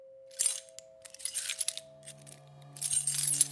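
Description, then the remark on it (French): Keys jangle in three bright, metallic clinking bursts separated by short pauses, with a steady low electrical hum running underneath and no voices. “Les clés, tout partout où vous allez, vous avez le bruit des clés.”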